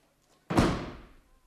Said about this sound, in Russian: И простоит еще долго, если вы не перестанете его ломать. Да перестаньте же выламывать дверь.